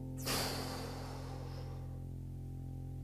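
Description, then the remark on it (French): A single forceful exhale through the nose during a breathing exercise, blowing strongly through the nose while relaxing the arms; it bursts out sharply, then trails off as a breathy hiss over about a second and a half, with a steady low hum underneath throughout. “Percevez la pression dans vos tympans et soufflez fortement par le nez en relâchant vos bras.”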